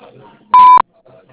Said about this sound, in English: Hi, thanks for calling. The person you're trying to reach isn't available right now, but you can leave a message after the beep.